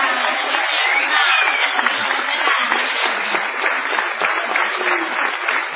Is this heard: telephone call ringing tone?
no